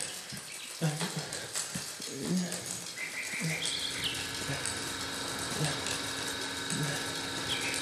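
A bicycle is pedaled with full force, with steady mechanical ratcheting and whirring from the gears, punctuated by soft, irregular thumps of pedal strokes, fairly loud throughout.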